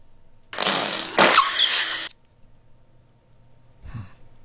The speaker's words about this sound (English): Oh, sorry, that's the fart still going from the previous one.